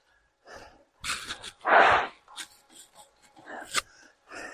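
During a break in a bike workout in a basement, someone blows their nose in a few short, snorting bursts, with one long, loud honk in the middle, followed by scattered breathy sniffs and gasps. No one speaks.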